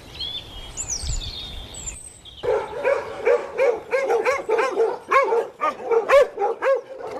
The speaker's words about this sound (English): Unflappable in the midst of five dogs not happy about my arrival, he was now also looking after three Springer Collie cross pups that had just been abandoned in his yard.